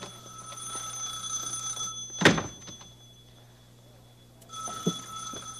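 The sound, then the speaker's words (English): A telephone rings with a steady, shrill electric tone for about two seconds, pauses after a dull thump, then starts ringing again; moderately loud, with no one talking. “Oh, there's a telephone.”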